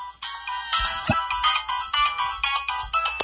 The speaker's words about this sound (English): Now you'll notice that the talks tells you what the ringtone is before it plays it. Now that's pretty cool.